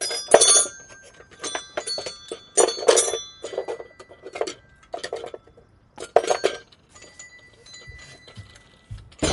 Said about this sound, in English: What are all these bells?